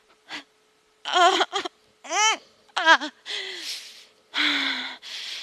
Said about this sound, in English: Breathing.